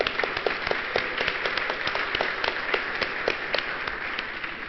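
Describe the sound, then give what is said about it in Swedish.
At a conference in Gothenburg, the audience applauds steadily for attendees who travelled from outside Gothenburg. Many hands clap in a dense, crackling wash, with sharper individual claps standing out, sustained at an even level throughout without any voices. “I think we ought to give these people a hand for making this journey.”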